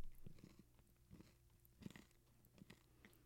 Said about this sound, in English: It sounds like if I go into like my Apple library to like use a sound effect for chewing, I'd be like, that's some gentle chewing.